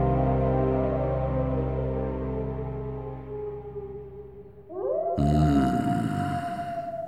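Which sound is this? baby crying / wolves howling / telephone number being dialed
wolves howling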